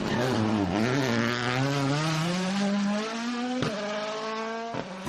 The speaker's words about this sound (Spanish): Es el rugido de los motores, típico rugido de motor de rally, ¿no? Cuando arrasa, hacen la curva llenos de barro y salen racheando.